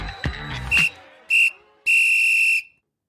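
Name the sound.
person whistling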